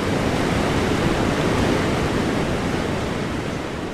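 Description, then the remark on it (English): White water rapids roar steadily in Yampa Canyon, a river churning between narrow sandstone walls: a dense, loud, unbroken rush of churning water that fills the whole clip without pause, with no voices. “They're keeping 7 inflatable rafts from drifting downstream, where white water is churning, sending an ominous roar up the narrow sandstone walls.”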